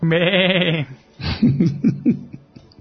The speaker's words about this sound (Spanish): ahora aquí tenemos en esta sección la cabra.